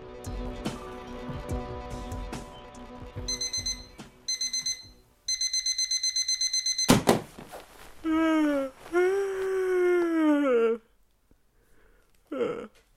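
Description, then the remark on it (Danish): A CE-marked alarm clock rings in bursts of rapid electronic beeps, first in short clusters and then a longer steady run, followed by a sharp clatter and a groaning, sweeping voice-like wail. “Vidste du godt, at dit vækkeur er CE-mærket?”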